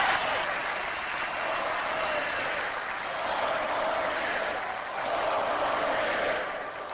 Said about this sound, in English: The crowd cheered loudly and chanted 4 more years throughout the almost hour-long speech, obviously hoping for an encore performance of the Bush-Cheney ticket.